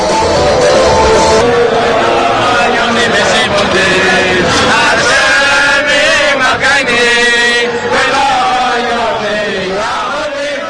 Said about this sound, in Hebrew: בואו תשמעו את השירה האדירה והריכוזים כאן.